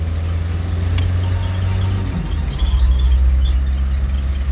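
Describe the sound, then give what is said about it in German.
A car's engine rumbles steadily at a low pitch, with a loud, continuous drone, occasional knocks and rattles, and a faint squeak riding over the noise as it drives along a bumpy road past trees. “Finster starrte er aus dem Fenster und sah die Bäume auf der holprigen Fahrt vorbeischaukeln.”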